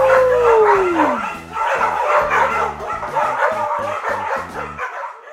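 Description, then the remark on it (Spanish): A dog's howl slides downward in pitch, followed by a busy stretch of yips and barks over a steady, pulsing low beat, loud throughout and ending abruptly. “Nos vemos para el próximo Dogcast. ¡Au!”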